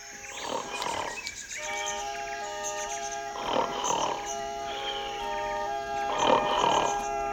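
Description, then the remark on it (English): Three loud, rumbling snores repeat at a slow, even pace, each a rough rasping breath, over a steady sustained musical drone with no talking. “How can I get any sleep with you snoring?”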